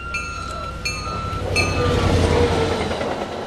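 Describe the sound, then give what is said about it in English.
A commuter rail train rumbles past right beside ongoing track work with a steady low roar, while sustained high-pitched tones and brief bright squeals ring out over the din of the rolling cars. “It's also being done right next to the still-running commuter rail.”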